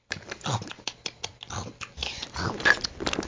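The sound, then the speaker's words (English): Rapid, noisy chomping and chewing of hot dogs, with quick wet bites and smacking crunches tumbling over one another for a few seconds, fairly loud, with no talking. “Those are delicious hot dogs.”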